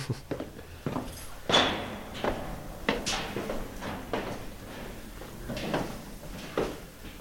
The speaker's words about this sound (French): On nous ouvre la porte. Un dimanche, puisqu'hier samedi, c'était pas possible, c'était Shabbat.